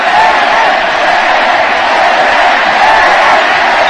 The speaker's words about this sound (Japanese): 場内のファンはゴール前のコーナーキックでペレに合わせて、ペレのヘディングシュートが見たいという、彼はペレという声援になりました。